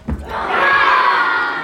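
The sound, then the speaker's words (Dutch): A group of children dressed up as a small army in a museum yells "Shield wall!" together in a sustained, loud battle cry, a dense mass of high voices swelling briefly and holding for over a second. “Dus die kinderen gingen zich verkleden en er ontstond een soort klein legertje.”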